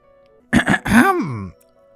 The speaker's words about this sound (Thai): กระเรียงชราหันมาสบตาสักแล้วก็ทำเสียงกระแอมไอเบาๆพลางหันไปมองดูบริเวณรอบๆกายแล้วก็ลุกขึ้นยืน